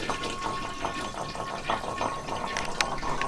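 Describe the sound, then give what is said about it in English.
Water poured out of a cat's water bowl in a bathroom in a steady splashing stream, with small clinks and gurgles over about three seconds; no one speaks. “And I'm going to put the microphone down, grab the water, pour the water out, flush the toilet, put the bowl back down.”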